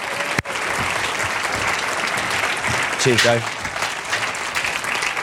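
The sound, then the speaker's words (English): A church audience claps steadily for several seconds, a dense, sustained wash of applause, while a man briefly speaks over it partway through. “Okay, let's have a round of applause for these guys, shall we?”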